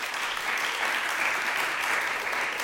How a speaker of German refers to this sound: Haben ja gerade alle geklatscht? Wohnen die alle in der Stadt? Ihr seid alle Städtis.